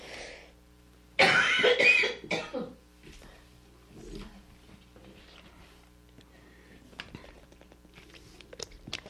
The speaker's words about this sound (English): while I recover from my coughing